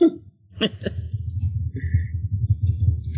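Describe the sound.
Quick, irregular finger taps patter in a loose, uneven rhythm, soft dull thumps mixed with faint clicky ticks, like someone drumming on a surface in a pretend imitation of typing using only the pinky and ring fingers.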